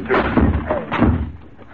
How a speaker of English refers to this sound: Give me a hand for this door. Well, what was it? Come on, come on. Put your shoulder to it. One, two...